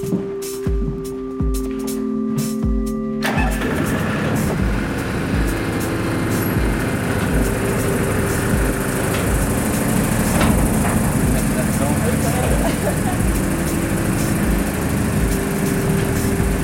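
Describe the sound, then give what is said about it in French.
A power generator engine, started to provide light and ventilation, starts after a few seconds of steady humming, then runs continuously with a loud, rough, low droning rumble that stays even throughout. “Alors, on va être obligé de mettre en branle le groupe pour avoir de la lumière.”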